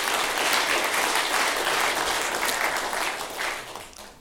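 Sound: audience applause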